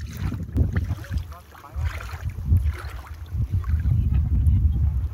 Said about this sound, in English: The scene in front of me is one of pure paradise. A half moon shape of white sand, clear water, no waves, stillness, not many people, raised banks on either side of the bay, greenery and dreamy cabins in the distance.